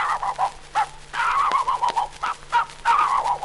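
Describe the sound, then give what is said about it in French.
A man's voice imitates a dog barking, with a rapid run of short, yappy barks in close succession, loud, with brief pauses between bursts; an animal imitation on an Edison record, from a visit to the Jardin des Plantes. “Mesdames et messieurs, voici les quelques cris d'animaux que j'ai pu retenir en faisant une visite au jardin des plantes. Voici d'abord le chien.”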